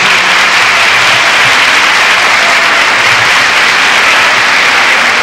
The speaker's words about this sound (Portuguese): Salve de palmas, professora.